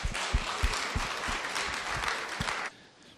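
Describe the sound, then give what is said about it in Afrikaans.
An audience claps steadily for a few seconds for the praise and worship team, a dense patter of many hands, then the applause cuts off abruptly near the end, leaving quiet. “Julle kan vir hulle dalk net 'n hande klap gee ook.”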